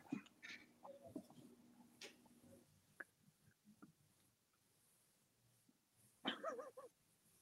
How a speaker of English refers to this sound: Oh boy. Dog.